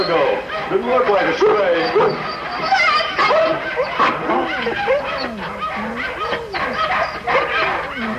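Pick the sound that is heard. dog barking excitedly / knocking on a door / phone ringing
dog barking excitedly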